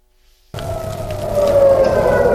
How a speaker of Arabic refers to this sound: صفارات الرعب دوت في معظم المستوطنات الصهيونية شمالية فلسطين المحتلة على الحدود مع لبنان